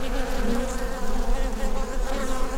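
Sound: bees buzzing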